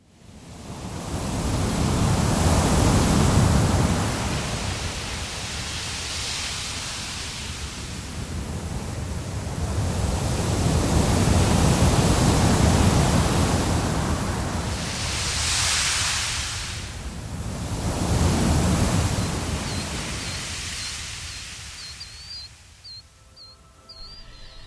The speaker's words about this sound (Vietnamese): Ngày xưa, có một chú khỉ đuôi dài, sống bên bờ biển xanh, ngày đêm rì rào tiếng sóng.